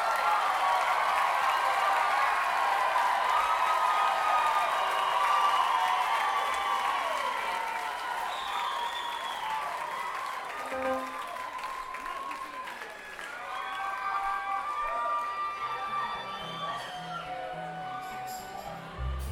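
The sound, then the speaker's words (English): A large concert audience applauds steadily and loudly, with scattered cheers and whistles rising above the dense clapping, sustained for the whole stretch without pause. “I want to get another round of applause for the bands we're touring with”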